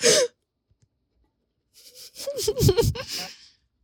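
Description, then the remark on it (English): Gulping as someone drinks water from a Nalgene bottle, a short run of throaty swallows with wet clicks after a brief sharp sound and a moment of silence. “You can hear the water being gulped.”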